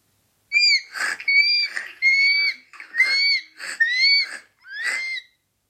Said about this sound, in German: Er grinst und grunzt und quiekt dabei, wie Rüdiger das Schwein